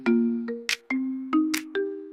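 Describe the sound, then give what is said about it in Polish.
A phone ringtone plays a short electronic melody, a quick run of bright synthetic notes punctuated by crisp percussive hits, loud with no voices. “Telefon ciągle dzwoni, ja oszalały.”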